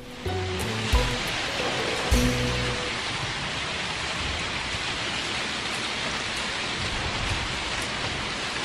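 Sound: heavy rain pouring down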